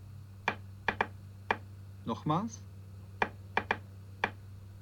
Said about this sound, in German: Ich klopfe diesen Rhythmus nun noch einige Male und ihr klopft ihn mit dem rechten Zeigefinger leise mit.